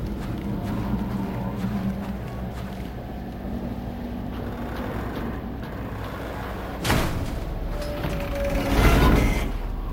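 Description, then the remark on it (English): A mechanical door unlocks with a sharp clunk, then slides open with a rising hiss and whir over a steady low machine hum. No voices. “Another day, another door.”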